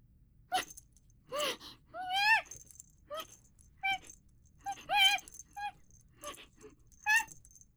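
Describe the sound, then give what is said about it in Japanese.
A one-year-old Scottish Fold cat named Suko plays with its owner using a rattling teaser toy: brief bursts of rattling alternate with squeaky, wavering high-pitched cries in an irregular rhythm, with no talking. “それは、ご主人様と猫じゃらしのおもちゃで遊んでいるんです。”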